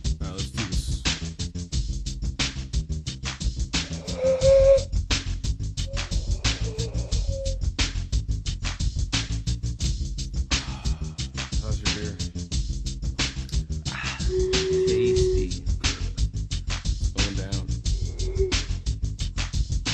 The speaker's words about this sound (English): Hey man, you wanna play a drinking game? Sure, how do you play? You like take a sip of your beer and then you whistle with it, you know, and every sip.